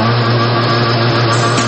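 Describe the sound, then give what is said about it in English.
A boat's outboard motor revs steadily as it is throttled up, a loud continuous engine drone with a strong low hum and a slight rise in pitch toward the end, with no voices. “How about throttle up, open her up, and cruise through the waters?”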